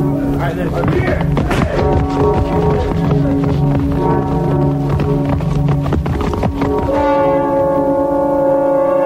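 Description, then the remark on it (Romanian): A church bell rings out from the direction of a village with sustained, resonant tolls, mixed with the rhythmic clip-clop of horse hooves and some voices; the bell's ringing tone comes through more clearly near the end. “Bate clopotul dinspre satul nostru.”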